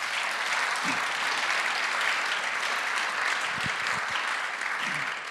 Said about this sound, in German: Wir begrüßen ihn doch auch mit einem herzlichen Applaus.